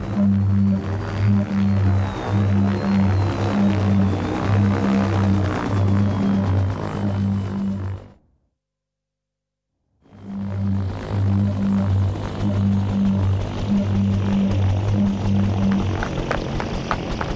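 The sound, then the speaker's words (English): A loud helicopter drones with a steady low rotor throb and rushing engine noise, cuts out abruptly for about two seconds, then returns just as strongly. No one speaks. “Stop the helicopter!”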